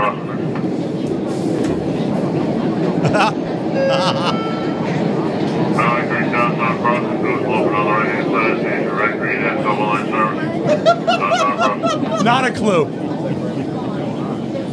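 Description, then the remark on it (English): Steady, loud rumble inside a moving subway car on the Red Line in Boston, with metallic wheel squeals rising over the noise midway through. Someone speaks briefly beneath the din. “was in Boston riding the red line of the MTA.”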